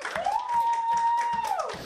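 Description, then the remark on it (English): An audience claps together in a steady rhythm, about two claps per second, while a long sustained musical tone holds over the top. “Let's clap out here.”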